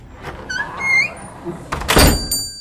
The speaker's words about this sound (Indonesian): Di malam hari, di ruas rampingnya jalanan sisi kota, bersama sepasang badan yang diselimuti udara dingin, lalu kubuka pintu.